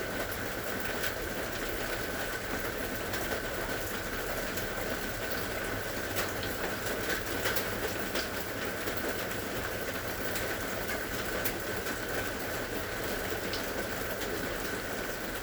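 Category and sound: nature, rain falling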